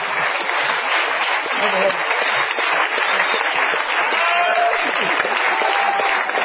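An audience claps steadily for comedian Luis Piedrahíta throughout, a dense, even wash of applause with a few faint whistles or cheers rising briefly above it.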